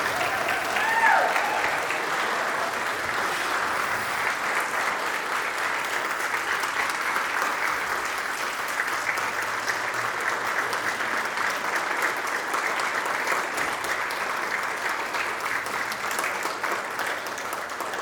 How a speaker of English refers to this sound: Would you please stand and give this man a round of applause and praise God with me